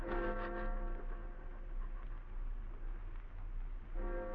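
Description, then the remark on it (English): A town clock strikes two, with two deep, ringing bell tones about four seconds apart. The first fades slowly over a steady low background rumble before the second sounds. “The town clock struck 2.”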